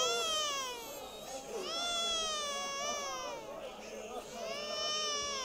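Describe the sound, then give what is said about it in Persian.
An infant of about five or six months wails continuously in long, rising and falling cries with brief catches of breath between them, loud throughout. “بچه تو همین سن سال 5-6 ماه آقا منصور، آقایی که بچه تو آورد”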